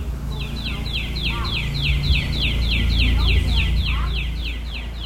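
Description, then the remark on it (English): Birds in a backyard in Gulfport, Mississippi, sing a long run of quick, high, repeated chirps that keep a steady rhythm throughout, set against a constant low rumble of background noise. “I'm an avid bird watcher, and these are the sounds of my backyard.”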